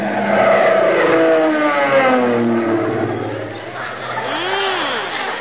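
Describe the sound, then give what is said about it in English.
An airplane swoops low overhead, its loud droning engine sliding steadily down in pitch as it passes, followed by a briefer rising and falling whine as the engine note fades. “That's mighty pretty flying at that, Molly.”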